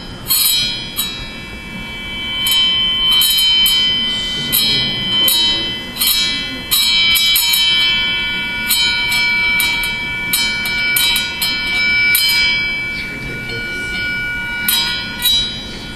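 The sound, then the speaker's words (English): Dry ice vibrating against a metal plate gives off a loud, shrill ringing, several high tones sounding together and wavering in stuttering pulses for the whole stretch. “Now, so you who are musicians will notice that there were several different tones there, right?”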